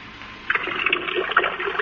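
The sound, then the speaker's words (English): A thin trickle of water, presented as Niagara reduced to a trickle, starts after a brief quiet moment and keeps running steadily, with a light, bubbly splashing texture at moderate volume. No voices are heard. “Niagara trickles like three drops of rain which have joined forces down a window pane.”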